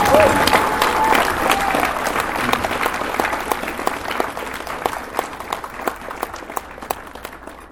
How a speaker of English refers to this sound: So I just want to have one last round of applause for the people who made the Dealer's Den.